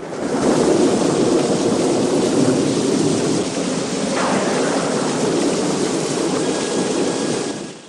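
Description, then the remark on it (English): Heavy rain pours down steadily in a dense, continuous hiss with a deep rumbling undertone, like a downpour during a storm, loud throughout with no voices. “… breathes a sigh of relief and lolls his head back to face the rain.”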